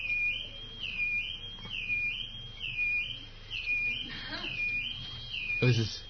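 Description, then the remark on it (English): An electronic alarm sounds continuously, a high steady tone that dips briefly about once a second in a repeating cycle, over a low background hum and faint murmuring. “Just, somebody's alarm is going off.”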